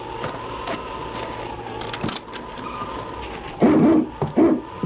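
Several sharp barks from the husky King burst out near the end at a cabin at Sutter's Creek, after a stretch of steady background hum with faint scattered noises.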